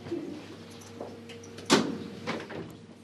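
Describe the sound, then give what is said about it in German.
A heavy security door's lock in a Swiss deportation prison releases with a sharp metallic clunk, followed by softer rattling and scraping as it swings open, over a steady low mechanical hum in an echoing space. “Kann ich die Tür haben?”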